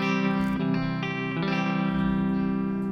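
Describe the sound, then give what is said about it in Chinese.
A young woman sound-checks an amplified electric guitar before singing, strumming a few chords, each one ringing out and overlapping into a sustained, effects-laden tone. It is fairly loud, with no talking. “你 好型啊，我觉得女仔攞吉他咧， 系啊，你可以试一试支吉他嘅声先啊。”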